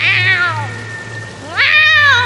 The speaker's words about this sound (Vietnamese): Mèo con ngao một tiếng to, tát luôn mấy cái nữa.